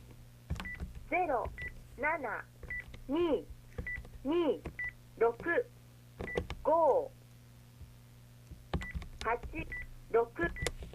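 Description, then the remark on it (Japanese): Short electronic telephone keypad beeps sound one after another as a phone number is entered with the dial buttons, about a dozen presses at an uneven pace, with a person talking between and over them. “ダイヤルボタンで電話番号を入力して、最後に決定ボタンを押してください。”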